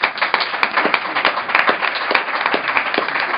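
A crowd applauds steadily, many hands clapping in a dense, even wash with sharper individual claps popping out here and there, sustained at a fairly loud level throughout.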